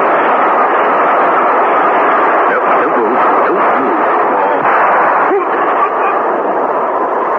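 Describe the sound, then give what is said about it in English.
A train screams through a station, a loud, steady roaring rush of noise that holds unbroken for several seconds, with faint rattling shifts in the middle and no voices. “As the train screamed through the station, the revolver shot that killed Mark Lucas was not heard.”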